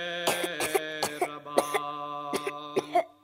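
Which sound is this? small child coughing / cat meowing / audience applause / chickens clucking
small child coughing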